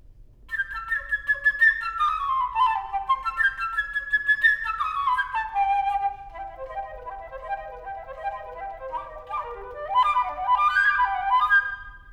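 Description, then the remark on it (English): A flute plays a quick, chirping melody in the high register, full of trills and fluttering runs that rise and fall, with no voices over it. It is the bird's theme from Peter and the Wolf, played by the flute of a wind quintet. “Each character in the story is represented by a different instrument in the wind quintet. For instance, the bird by the flute, like this.”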